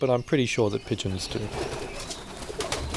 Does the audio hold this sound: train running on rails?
no